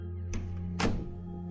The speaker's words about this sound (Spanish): La puerta se cierra.